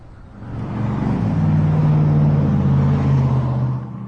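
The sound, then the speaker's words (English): A car engine hums steadily while driving out to Flagstaff, with a pork roast, apples and potatoes foiled up on the engine: a low droning rumble that swells in loudness after the first half second and holds continuous, with no voices. “We head out to Flagstaff.”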